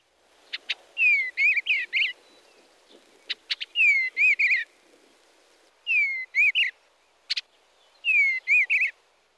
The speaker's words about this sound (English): The song of the eastern bluebird can be thought of as a soft warble with rich whistle notes and occasional chattering.